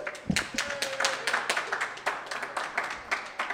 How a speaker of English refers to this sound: I like that. There was like directional there as well. I'm just going, guys, clap, go for it properly.